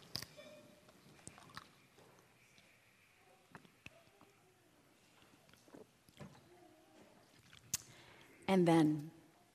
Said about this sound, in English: I need to have a little sip before I do this next part.